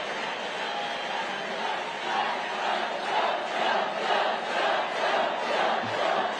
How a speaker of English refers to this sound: And the crowd is chanting for, let me check what this would be. Oh, yeah, murder. It's murder he's talking about.